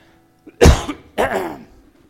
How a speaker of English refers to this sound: As I shared with you last week, I have allergies, so a cough comes with that, so I do not have COVID.